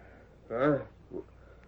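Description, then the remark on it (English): A brief, distant horse whinny at a camp, a short tonal neigh followed a moment later by a fainter, shorter call, heard against a quiet, slightly hissy background. “That's a horse somewhere in the distance.”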